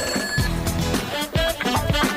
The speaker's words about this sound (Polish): Telefon dzwoni, ja już odbieram.